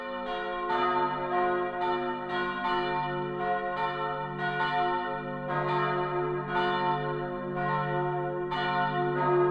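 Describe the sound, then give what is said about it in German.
A large bronze church bell, the Campana Maxima cast in 1338, the oldest dated bell of Cologne, now hanging in Boßler for over 200 years, rings repeatedly in a steady, unhurried rhythm, each loud strike blooming into a rich, humming resonance that overlaps the next. No voices are present. “Durch die Bronzeglocke sind wir also auf mehrfache Weise auch mit Köln verbunden.”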